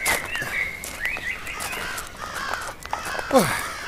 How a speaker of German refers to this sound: Naja, ich meine, die ganzen Krähen machen schon Lärm. Stören die Sie? Was? Nein, mir ist nur aufgefallen, dass es auf einmal so viele sind. Ja, am frühen Abend fangen sie an, sich hier zu versammeln.